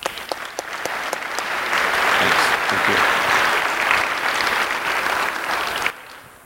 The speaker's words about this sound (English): So I would like to ask you to applaud yourself for this recognition.